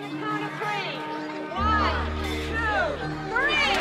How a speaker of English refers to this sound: A crowd of people mill around at an open-air church fair. A sign reads, Spin Art. Another sign, Pie Eating Contest.